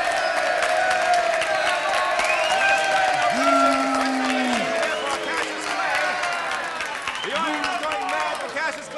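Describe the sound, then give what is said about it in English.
A crowd in New York City claps and cheers loudly and steadily after Cassius Marcellus Clay is announced as winner and world's heavyweight poet, with whoops and shouted voices rising above the dense wash of applause throughout. “Trying, ladies and gentlemen, to make my way through the crowd of literary greats who are congratulating Clay.”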